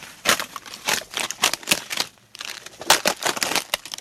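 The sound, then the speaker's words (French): Crisp crunching of plastic bottles buried in an industrial plastic waste dump forming a mound, stepped on underfoot, with hundreds of Vittel-brand bottles on the ground; a steady series of crackly steps with a brief pause midway, heard alone without any voices. “Donc elle s'est dit, tiens, c'est pas un bruit normal de feuilles mortes, ça.”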